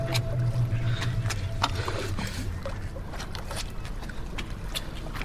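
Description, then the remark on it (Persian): A rowboat being moored at the edge of a lake, with irregular wooden knocks and clunks against a steady low background of lapping water and faint rumble. “قایق رو کنار دریاچه میبنده.”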